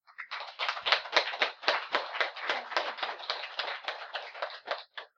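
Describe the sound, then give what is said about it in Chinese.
A crowd applauds for about five seconds, a dense stream of overlapping hand claps with a steady crackling texture that swells early and tapers off at the end. No one speaks. “鼓掌欢迎。”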